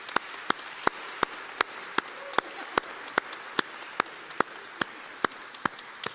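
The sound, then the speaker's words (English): A crowd applauds in a dense, steady wash of clapping, with one set of sharp, evenly spaced claps standing out above it at a brisk, regular pace. No one speaks. “Je pense que ça mérite une belle main d'applaudissement.”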